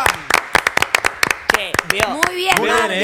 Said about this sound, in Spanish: ¡Fuerte aplauso